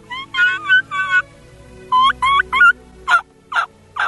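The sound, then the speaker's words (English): A wild turkey kiki run, or whistle and loss call, a common fall call, made on a turkey call: two sets of three high, rising whistled peeps, then three louder, raspier yelps, with no talking. “One of the most common fall calls is the kiki run or whistle and loss call of the wild turkey.”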